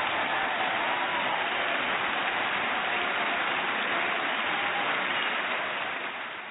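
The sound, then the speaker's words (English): A dense, steady wash of crowd applause, like a canned sound effect, with continuous crackling claps that hold even throughout and fade slightly at the very end. No voices are heard. “First of all, she needs to get one of these. I'm telling you, she is just, woo, an applause.”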